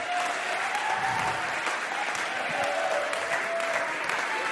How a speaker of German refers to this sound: Ein Applaus für Josia.